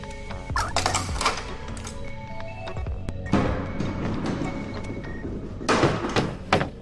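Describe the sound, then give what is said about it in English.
A key turns in a heavy prison door lock with sharp metallic clanks and rattles, then the door grinds open with a loud scraping slide and a final clunk, unaccompanied by speech. “The door is locked. A sign reads prison. Use the prison key to unlock.”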